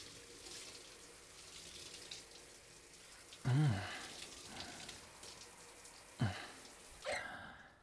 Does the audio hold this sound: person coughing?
no